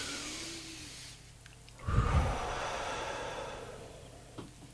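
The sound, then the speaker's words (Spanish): Several people take a deep breath together: a long, airy inhale, then a louder, gusty exhale that trails off into a soft, breathy hush. Fairly quiet, with no talking. “Pues muy bien, pues ¿os parece que hagamos una respiración profunda todos juntos y continuamos?”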